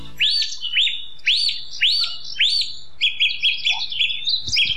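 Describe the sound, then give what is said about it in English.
Dawn chorus birdsong in wild garlic woodland at Knockrea in Killarney National Park: a bird repeats bright, arching whistled phrases, then shifts to a quicker run of high chirping notes, with faint calls from other birds behind. “On our Down Chorus walk in Knockrea in Killarney National Park, we walked through wild garlic woodland, crossing the River Deanock to Deanock Lodge, where now it's just about 7 minutes, 8 minutes past six.”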